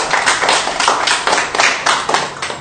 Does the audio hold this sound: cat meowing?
no